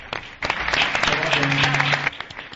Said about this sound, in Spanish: Vamos a dar un aplauso al grupo